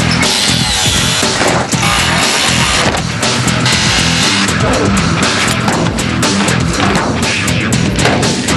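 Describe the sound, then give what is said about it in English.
Loud power tools grind and saw continuously for the whole clip, overlapping in a dense, harsh roar with rapid bursts and clatter as a team cuts apart a hearse to remove its weight. No one speaks. “Lindog attacks the hearse with every tool in their arsenal.”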